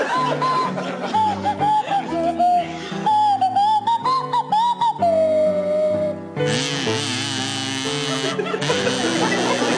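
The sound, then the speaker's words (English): A player on a buzzing kazoo and Tony Hawks on a sliding swanee whistle play a wobbly tune together, the whistle gliding between notes, before the sound swells into a louder, denser burst near the end. “to feature … on the kazoo, Tony Hawks on the Swanee whistle.”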